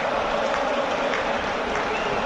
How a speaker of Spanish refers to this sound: ¿Llega Boca o no? Llega Boca en breve. Llega Boca en breve. Escuchen lo que es el estadio, escuchen.